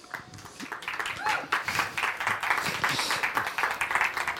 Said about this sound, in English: Big applause for those two.